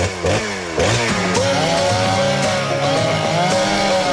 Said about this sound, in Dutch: Tijd voor de zaagplaat. Hup, kettingzaag aan.